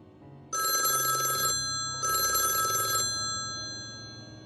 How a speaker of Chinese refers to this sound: 闹钟准时响起